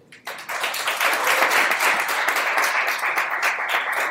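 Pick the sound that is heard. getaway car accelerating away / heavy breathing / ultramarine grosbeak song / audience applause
audience applause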